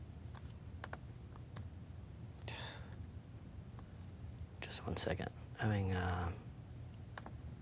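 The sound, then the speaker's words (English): Sparse, light clicks of typing on a computer keyboard tap out irregularly over a low background hum, interrupted by a brief spoken phrase near the end. “I'm not used to this keyboard.”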